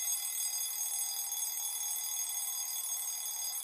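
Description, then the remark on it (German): An alarm clock rings continuously for a few seconds, set to wake someone at 3 a.m. to measure blood sugar, a steady, bright, high-pitched electronic ringing at an even, moderate loudness throughout with no voices. “Ihr stellt euch einfach einen Wecker und ich weiß, für eure Gesundheit steht ihr gern nachts um 3 Uhr auf.”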